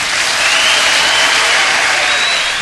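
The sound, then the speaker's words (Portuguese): A dense, steady wash of live audience applause at the end of a recorded music performance, many hands clapping at once into a loud, hissy roar that holds evenly throughout with no voices on top. “Essa gravação com a qual nós abrimos o programa de hoje foi feita ao vivo, daí os aplausos que você percebeu no final.”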